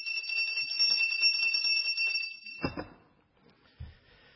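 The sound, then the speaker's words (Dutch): A hand bell is rung rapidly and brightly as an alarm for nature conservation in Deurne, ringing continuously for about two and a half seconds, then stops; a couple of dull thumps follow, as if the bell is set down. “En daarom heb ik ook een bel meegenomen. Ik wil vandaag de alarmbel luiden voor het behoud van de natuur in Deurne.”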